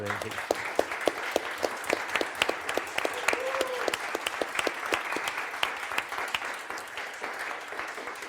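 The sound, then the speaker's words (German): A crowd applauds steadily, many hands clapping in a dense, continuous patter that holds at a fairly even level throughout, with a faint voice briefly audible in the middle. “aber ich finde, die haben auch mal ein Dankeschön, einen kräftigen Applaus verdient.”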